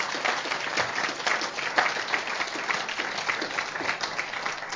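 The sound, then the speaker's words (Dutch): An audience applauds steadily, many hands clapping in a dense, continuous patter that holds at an even level throughout, heard from within the room with no speech over it. “Geef ze even een applaus, hè, dat ze hier naar voren komen.”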